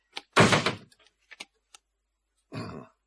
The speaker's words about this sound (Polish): Stoimy. Zrób to, co ja przedtem. Zatrzaśnij dobrze drzwi i przyciśnij przycisk.